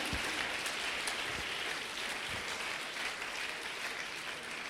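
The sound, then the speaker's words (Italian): An audience at an evening worship service applauds Jesus Christ, clapping steadily for several seconds, a dense, even wash of many hands with a few sharper individual claps standing out, no voices audible. “Così benedici questa serata di culto, te lo chiediamo nel nome di Gesù Cristo, che applaudiamo benedetti in eterno, amen, alleluia.”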